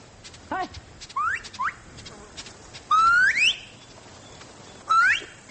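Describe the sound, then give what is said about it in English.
A Maasai person in East Africa whistles a series of short, rising calls to attract a honeyguide bird, four or five brief upward-sweeping bursts with gaps between them, clear over a quiet outdoor background with faint clicks. “whistling to attract a honey guide”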